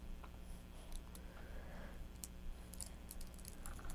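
A child handles and plays with a set of keys that clink and rattle, a steady run of small, sharp metallic clicks scattered irregularly over a few seconds, with no talking.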